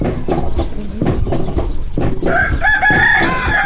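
Chickens cluck in short bursts, then a rooster lets out a long, strained crow that carries through the rest of the sound, with steady farmyard noise underneath.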